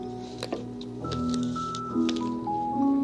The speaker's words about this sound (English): Bobbing for apples.